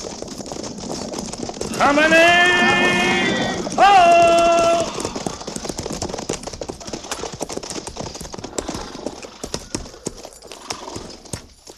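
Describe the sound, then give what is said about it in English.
Horses' hooves clip-clop steadily in a quick, irregular patter as riders head down to the river, while a loud, tonal horse whinny rings out over the hoofbeats early on. “Well, let's ride on down to the river.”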